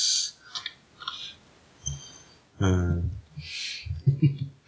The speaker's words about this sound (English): Well, let's put these coins in there. We'll call that seed money.